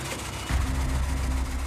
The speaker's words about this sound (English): You can see how badly it's shaking. It's, right. You can hear the skip coming out of the exhaust system.